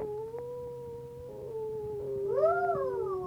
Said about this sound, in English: I hear a howling dog.